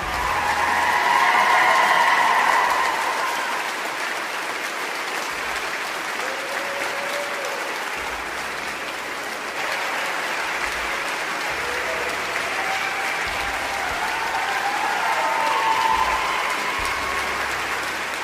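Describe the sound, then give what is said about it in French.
A crowd in the conference hall of a party headquarters bursts into sustained, joyful applause after a deputy's 20-minute speech, a dense steady wash of clapping lasting the whole stretch, with some cheering and excited voices rising over it. “La foule dans la salle de conférence de la maison du parti éclate littéralement de joie.”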